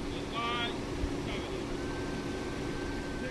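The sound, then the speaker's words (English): A hearse's engine idles at a funeral in a cemetery with a steady, low, continuous rumble throughout, while faint voices rise briefly in the background and a thin high tone lingers. “The funeral starts, and I stand back, near the hearse, which still has its engine running.”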